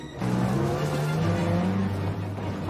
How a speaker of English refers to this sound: The truck speeds off in pursuit of the children, Leopold at the wheel.